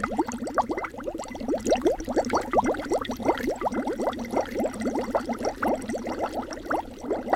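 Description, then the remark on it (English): Steady, rapid bubbling as air is blown through a straw into a glass of water, a dense run of gurgling pops sustained for several seconds with no voices. “As I make the water bubble, it's indistinguishable from the sound of Remy's soup, and this is exactly the method commonly used in Hollywood to create any bubbling liquid, from a witch's cauldron to a chemistry experiment.”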